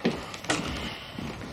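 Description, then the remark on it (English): At home, a door opens with a couple of soft knocks and a brief rattle of the handle, followed by a low, steady rustle as someone steps inside. “He goes to the door.”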